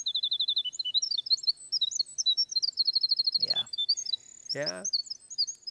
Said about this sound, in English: I bet Lee's got a winter wren song.